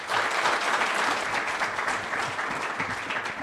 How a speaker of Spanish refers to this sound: Es un alto honor para Colombia. Muchas gracias, lo recibimos con un aplauso del alma de los colombianos.